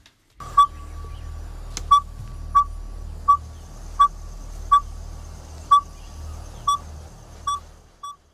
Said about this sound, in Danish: Det er jo et vækkeur, det ved vi.